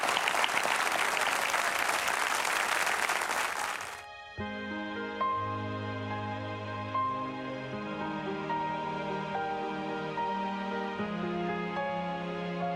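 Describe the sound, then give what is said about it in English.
Loud, dense applause from an audience thanking guest author Lisa Harper fills the first four seconds, then cuts off as sustained tonal music with steady chords takes over for the rest. “Would you join Betty and me in saying thanks for Lisa?”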